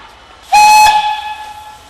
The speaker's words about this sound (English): And with a toot and a hiss of steam, we're off.